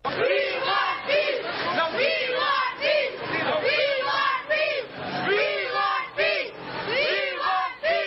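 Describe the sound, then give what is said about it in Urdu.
A crowd of schoolchildren from various schools in Swat shouts and chants together in loud, rhythmic bursts at a peace rally calling on the United Nations to end wars, carrying banners and placards, sustained throughout like a rally in full swing. “سوات میں مختلف اسکولوں کے بچوں نے اقوام متحدہ سے جنگوں کے خاتمے اور لوگوں کی زندگیاں محفوظ بنانے کے لیے ایک پرامن ریلی کا انعقاد کیا”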